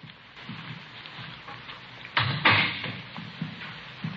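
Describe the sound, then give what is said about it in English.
A door is opened with a sudden clunk and a short scraping swing about halfway through, over a steady patter of rain. No one speaks. “I'll get the door.”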